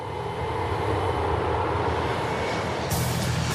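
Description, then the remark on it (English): A steady, loud roar of an airplane idling on the tarmac as players board it for a flight to Athens, a continuous engine hum with a faint high whine, brightening slightly near the end, with no one talking. “They wait on a tarmac, and Zupan grins as he rides piggyback onto a plane.”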